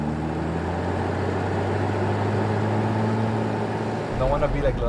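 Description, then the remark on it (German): A Nissan SUV's engine drones steadily with a low, even hum, then surges louder and rougher near the end as the driver steps on the gas, joined by a brief higher tonal whine, in the private city of Próspera. “Er steigt in seinen Nissan SUV und drückt aufs Gas.”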